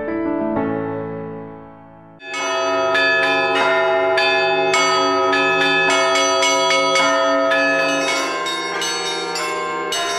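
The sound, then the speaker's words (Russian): Russian church bells peal in a dense, continuous chime, many bells striking in quick overlapping rhythm after a brief softer opening; loud and resonant, with no voices. “Русский колокольный звон – музыка уникальная и незаменимая.”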